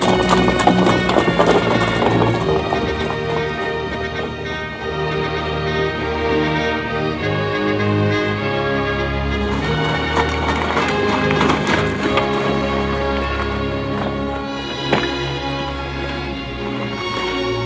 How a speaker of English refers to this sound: The next morning, the Empress arrives at her palace in an open, horse-drawn carriage.